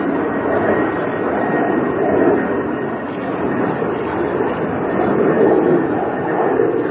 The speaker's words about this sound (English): It's always planes flying over because Reagan National is close.